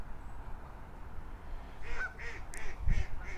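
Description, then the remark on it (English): A series of about five quick duck quacks in a steady rhythm, fairly soft, at Heron Haven, over a low rumbling outdoor background with no talking. “Oh, there's some good quacks.”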